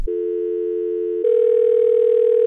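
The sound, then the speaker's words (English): A loud, steady telephone dial tone of an outgoing call hums continuously, then shifts abruptly partway through to a slightly different, buzzier steady tone. There are no voices, just the unbroken electronic drone. “Be ready when we call. This is Phone a Friend.”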